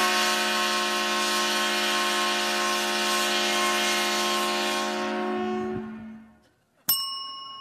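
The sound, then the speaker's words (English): A loud 130-decibel train whistle of the train-themed Purdue Boilermakers, a Big Ten team from Indiana, sounds for a touchdown: one long, steady, chord-like blast for about six seconds, then fades out, followed by a single sharp metallic ding that rings briefly. “You'll hear this 130 decibel sound every time this train-themed Big Ten team from Indiana scores a touchdown.”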